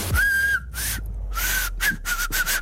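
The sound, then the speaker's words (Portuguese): Several breathy blasts of air carry a thin, wavering whistle tone, repeated in about five short bursts as a woman wearing lipstick tries and mostly fails to whistle sharply through her fingers. “Eu sei assobiar, só não sei assobiar com os dedos.”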